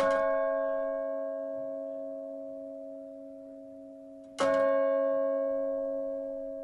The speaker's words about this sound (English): Today at noon, America's oldest working clock tower rang out for the first time since the 1800s.